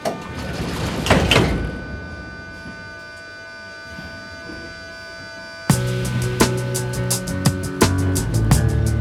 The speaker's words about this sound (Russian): Осторожно, двери закрываются. Следующая станция – Кантемировская.